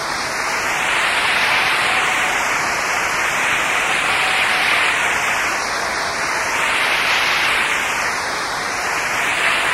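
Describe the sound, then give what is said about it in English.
A large crowd claps for Jesus steadily for about ten seconds, a dense, even wash of applause with no individual claps standing out and no voices over it. “That when we say we should clap for Jesus.”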